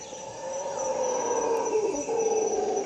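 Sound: howler monkeys howling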